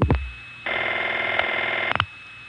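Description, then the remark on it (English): Telephone line audio: a new sender in a Crossbar 5 exchange office dial pulsing a number out on a trunk to Spotsylvania, with sharp relay clicks at the start, a steady buzzy hum in the middle, and a quick burst of clicks near the end. “And now, there's a new sender on the line, dial pulsing the number out.”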